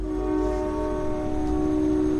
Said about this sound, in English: I ride the commuter rail from Mansfield. These trains are particularly noisy.